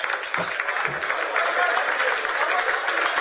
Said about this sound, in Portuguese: palmas para ele também.